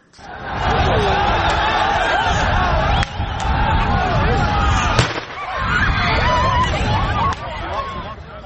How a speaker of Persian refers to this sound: پلیس ضد شورش در مقدونیه برای پراگنده ساختن هزاران پناهجویی که میخواهند از یونان وارد مقدونیه شوند از گاز اشکاور استفاده کرد. همچنان صدای تیراندازی نیز در این جریان به گوش رسیده.